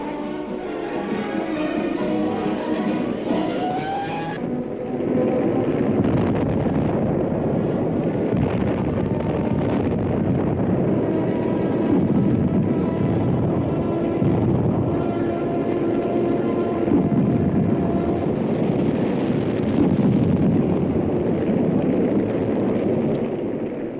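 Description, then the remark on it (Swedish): A heavy, continuous drone of the massed engines of an approaching bomber squadron fills the whole stretch, loud and steady with a throbbing low rumble and no voices. “Den här kartan har noga studerats av en viss bombflottilj. Den är på väg nu. Kommer närmare och närmare.”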